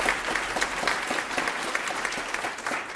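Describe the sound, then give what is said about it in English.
An audience applauds steadily for about three seconds, a dense, even wash of many hands clapping at once with no voices over it. “And more broadly, it's worth applauding.”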